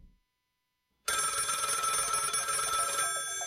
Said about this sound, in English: Phone rings.